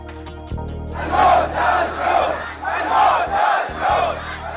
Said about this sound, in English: A crowd of protesters in the Saudi Arabia village of Awamiya chanting "Down with the Saud" and "Death to the Saud" today after the beheading of prominent Shiite cleric Nimr al-Nimra.